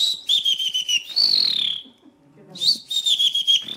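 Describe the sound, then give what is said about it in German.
A man from Palling in Bavaria, European bird-whistling champion, whistles an imitation of a blue tit's call: bright, high trilling phrases with a sliding note, a brief pause, then another rapid trill, clear with no talking. “Er kann rund 40 verschiedene Vogelstimmen perfekt imitieren, zum Beispiel die Blaumeise.”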